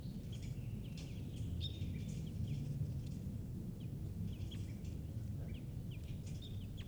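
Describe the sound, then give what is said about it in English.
A wild bird gives short, sharp alarm calls, repeated irregularly, over a steady low outdoor rumble with no talking, at point 518 in Klingberg. “And a wild bird is here giving alarm calls.”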